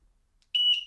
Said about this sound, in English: Oh, it's a whistle?